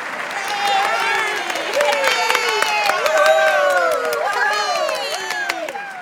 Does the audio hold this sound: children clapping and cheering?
yes